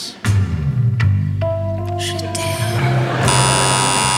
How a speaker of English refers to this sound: Yeah, I don't think that's a bird. But you're wrong. It was actually a common shag.